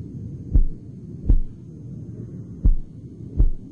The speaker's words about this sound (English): You might hear your heart rate pumping up.